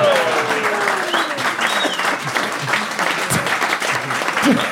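Steady, dense clapping from a crowd fills the whole stretch at a fairly loud level, with a few faint gliding whistle-like tones drifting over the applause.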